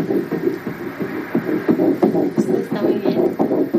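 A fetal heartbeat on an ultrasound doppler at a gynecological check-up of a woman 10 weeks pregnant with her fifth child: a rapid, steady train of whooshing, throbbing pulses over a constant muffled hiss, fairly loud, with no talking.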